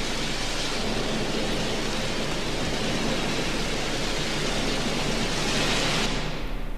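Heavy, steady rain opening a song pours down in a dense continuous hiss with a low rumble beneath, loud and unbroken throughout, with no voices; the bright top end thins out in the final moment.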